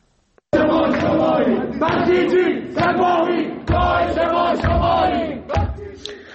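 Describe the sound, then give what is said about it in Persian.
A crowd of young voices, students protesting at university dormitories in Tehran (Khajeh Nasir University boys' dormitory and Allameh Tabatabai University girls' dormitory), chants loudly in unison, shouting a rhythmic protest slogan in repeated bursts of roughly one per second, with sharp accents between phrases. “علاوه بر اون خوابگاه های دانشجویی، بعضی از دانشگاه هم دانشجویان صدا اعتراضشون بلند شد.”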